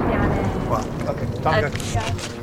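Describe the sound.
A loud, continuous roar of incoming military jets sweeps over the village of Mashgara, a heavy rumbling wash that fills the scene, with faint voices underneath.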